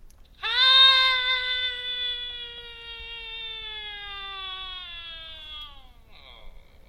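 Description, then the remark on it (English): A single long, high-pitched human scream recorded with a microphone, held steadily for about five seconds, loudest at the start and sliding slightly lower before cutting off, with no talking. “And so I recorded myself screaming.”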